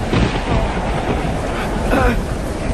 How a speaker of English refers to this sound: Without warning, a furious storm came up on the lake, so that the waves swept over the boat.